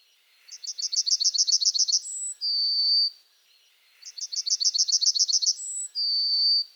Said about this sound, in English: It was a yellowhammer, a well-known bird that nests on or close to the ground but sings from the top of a hedge. A little bit of bread and no cheese. A little bit of bread and no cheese.